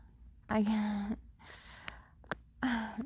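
heavy breathing

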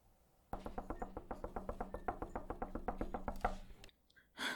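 knocking on a door

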